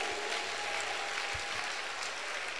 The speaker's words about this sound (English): Clap for Brother